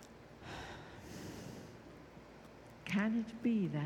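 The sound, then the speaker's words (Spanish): A long, airy inhale rises and fades over about a second, followed after a pause by a voiced, sighing exhale, fairly clear. “Toma una profunda respiración.”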